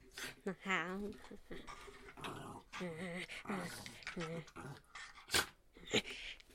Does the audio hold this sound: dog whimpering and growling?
yes